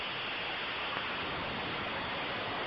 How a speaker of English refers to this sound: Someone's got a faucet on.